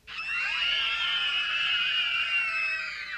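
A class of children at University Primary School scream together in one loud, sustained, high-pitched burst lasting about three seconds, many overlapping voices blending into a shrill wall of sound with no talking.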